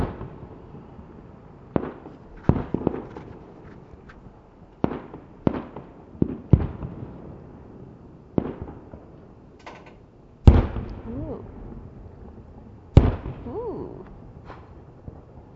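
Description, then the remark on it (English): Fireworks going off outside, heard from a window at home: a dozen or so sharp bangs at irregular intervals, two louder booms trailing off with rumbling echoes and faint whistles, with no voices. “And all of a sudden, I just hear this fireworks, so I thought I would record this.”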